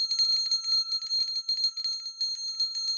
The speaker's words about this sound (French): Mila tira sur la sonnette en coquillage.